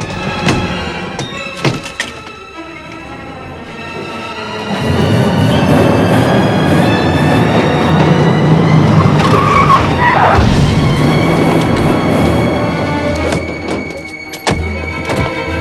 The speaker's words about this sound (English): The truck again reverses in the car park as the police arrive.